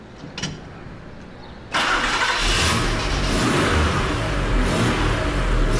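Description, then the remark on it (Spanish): A car engine cranks briefly, then catches and roars to life, settling into a loud, steady running rumble with slight revving, with no talking. Someone sitting in the car turns the ignition on cue. “Anda, sube al coche, por favor. Y dale al arranque cuando yo te diga.”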